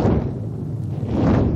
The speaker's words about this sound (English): And then I added some whoosh sounds.